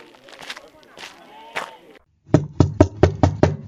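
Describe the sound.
A voice speaks briefly, then after a short pause comes a run of about seven firm, evenly spaced knocks on the door of a friend's house, loud.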